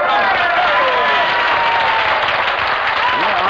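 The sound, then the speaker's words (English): Audience applause greeting a guest's answer that she is from Brooklyn fills the whole stretch, a dense, steady wash of clapping at an even, fairly loud level with no break, a few faint voices blended in. “I fail to see why the location of birth should be met with applause.”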